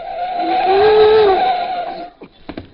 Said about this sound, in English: So she won't hear me coming down the stairs. I'll slide down the banister.